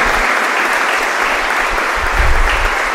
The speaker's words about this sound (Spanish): El primer aplauso a Jesucristo, servidor del plan de Dios.